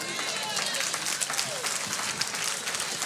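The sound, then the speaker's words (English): An audience applauds steadily, many hands clapping in a dense, even wash with scattered sharper claps rising out of it, while faint voices mingle underneath. “See, and I can tell by the clap you still don't believe it.”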